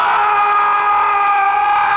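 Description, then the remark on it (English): A loud, sustained high-pitched scream holds steady for about two seconds, shrill and piercing with a slight wavering quality, heard alone without any talking. “It wasn't the scream”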